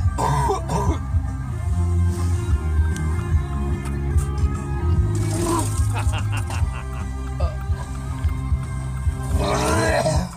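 A person vomits in a car, with harsh, guttural retching and heaving bursts and coughing throat noises repeating over about ten seconds, while loud rock music plays steadily underneath.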